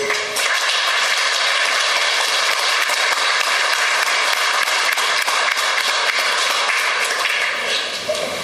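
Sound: audience applause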